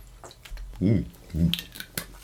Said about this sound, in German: So, ja, wir sollten noch einmal anstoßen, bin unbedingt.